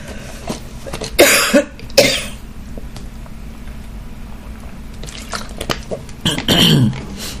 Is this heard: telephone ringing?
no